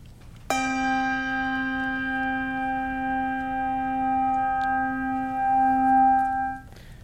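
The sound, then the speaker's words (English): A single lower-to-middle bass handbell is struck once and rings out with a rich, sustained tone and shimmering overtones, slowly fading over several seconds before being damped. No one speaks. “So this is one of our lower to middle bass bells.”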